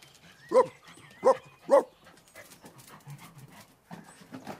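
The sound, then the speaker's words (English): A three-legged stray dog at a shop door gives three sharp, loud barks in quick succession, followed by a couple of seconds of quieter, scuffling background noise with no voices. “The three-legged stray dog, whom nobody owns, is at the shop door.”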